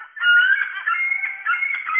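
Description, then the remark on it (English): Seagull calls at the seaside, a run of loud, harsh, nasal cries, repeating in quick succession with brief dips between them, heard alone with no talking. “And that's the one where people say, ah, it's a seagull.”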